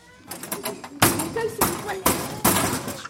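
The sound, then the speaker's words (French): A locker at a middle school (collège) is banged repeatedly: a few lighter rattling knocks, then four loud, sharp metallic slams at uneven intervals, each ringing briefly before the next. “C'est un casier.”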